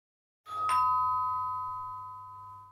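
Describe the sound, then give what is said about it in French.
A single doorbell chime rings out, its clear tone sustaining and slowly fading over a couple of seconds, with a low steady hum underneath and no one talking. “Sonnette.”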